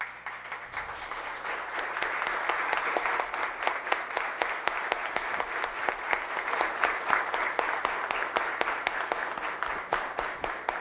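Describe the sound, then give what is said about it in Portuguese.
A large standing audience applauds continuously for about eleven seconds in tribute to heroes, a dense, steady wash of many hands clapping at an even loudness with no speech over it. “Então eu queria que todos, se pudessem, em pé, dessem uma salva de palmas para todos esses heróis, por favor.”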